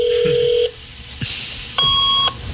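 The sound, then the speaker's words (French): Fax machine dialing tones: a steady electronic tone, a brief burst of hiss, then a higher paired beep, each lasting about half a second, clear with no voices. “Ah oui, fax.”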